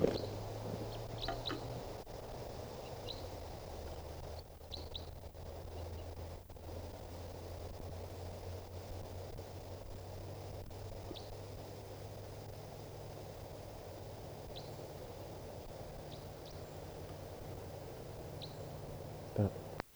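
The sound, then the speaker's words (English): Faint, brief bird calls chirp now and then, high-pitched and widely spaced, over a steady low mechanical hum and a soft hiss of background noise. “This is a wild bird.”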